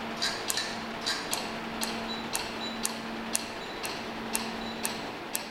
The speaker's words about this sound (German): Übrigens, so tönt es, wenn Laserstrahlen Blitz für Blitz die Farbpigmente von einem Tattoo in der Haut aufplatzen und verschwinden lassen.